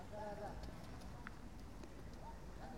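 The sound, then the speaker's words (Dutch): Children's voices rise and fall in the background of a city botanical garden where families walk around, small high calls drifting over steady outdoor background noise with no one else speaking. “Nou, je hoort wellicht op de achtergrond de kinderen.”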